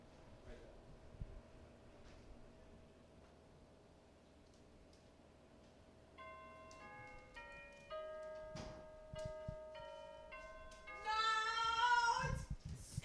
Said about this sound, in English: Whoa. What? Old school doorbell. Check this out.